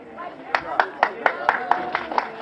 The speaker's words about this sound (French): La porte de la prison de Dijon s'ouvre. Ici, la foule est nombreuse pour accueillir